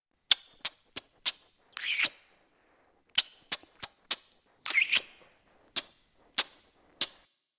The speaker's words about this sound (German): Ja, habt ihr euch jetzt den Knutschrhythmus gemerkt? Wahrscheinlich nicht. Und deswegen hören wir uns nochmal an. Passt gut auf, denn ihr sollt ihn dann nachknutschen.